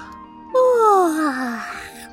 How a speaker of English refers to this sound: She said with a big yawn.